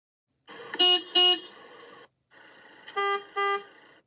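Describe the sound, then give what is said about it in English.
A car horn sounds in two bursts, each a sustained tone punctuated by two louder, sharper honks, with a brief silence between the bursts and no voices. “It's a car horn.”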